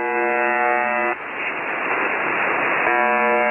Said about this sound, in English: This is a recording of a shortwave radio station that's commonly known as the Buzzer. It's broadcast at 4625 kHz, and for the most part, it plays this buzzing sound continuously.